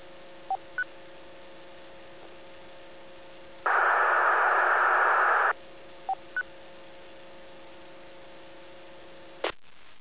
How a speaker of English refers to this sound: Okay, I think we had a station in there on Echo Link. We just heard some open squelch audio, but did not copy a call sign. Please say again.